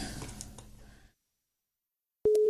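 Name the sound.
telephone ringing tone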